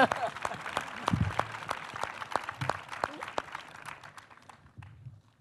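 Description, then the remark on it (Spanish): An audience at a debate bursts into applause, a dense flurry of sharp claps that holds steady for several seconds before thinning out and fading toward the end. “¡Aplaudidme!”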